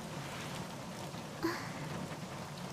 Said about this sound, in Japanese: なんか、雨が降り始めちゃったね。